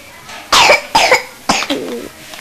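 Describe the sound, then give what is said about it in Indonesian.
Three sharp coughs in quick succession, fairly loud, each a short raspy burst separated by brief pauses, with no talking. “Kalau batuk.”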